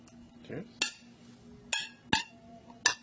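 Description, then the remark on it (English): Glasses clink together in a toast at Rick's Martini Bar, four bright ringing taps spaced irregularly over a few seconds, with a faint voice and low background hum underneath. “Welcome. Cheers.”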